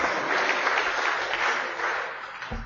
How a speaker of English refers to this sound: That was kind of a weak applause on that one, wasn't it, there?